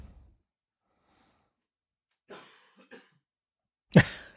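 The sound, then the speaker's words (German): A participant in a show coughs: a short muffled cough, a small follow-up, then after a pause one loud, sharp cough. No one speaks, and the rest is near silence. “Der eine taucht nicht mehr auf, der andere hustet.”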